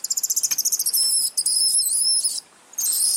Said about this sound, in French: Alors ce n'est pas un oiseau qu'on entend, mais des mangoustes.